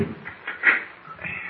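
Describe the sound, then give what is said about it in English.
Door bolts on a door in a wall inside a hollow volcano are drawn back by Mr. Kent with short metallic scrapes and clacks, one rasping louder in the middle with a brief squeal, followed by quieter rattling. No one speaks. “First, these bolts.”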